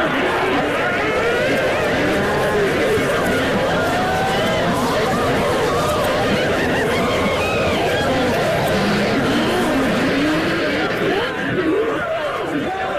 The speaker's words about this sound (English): Here the raucous cackling, shrieking and chattering of 100 old women filled the air to the rafters.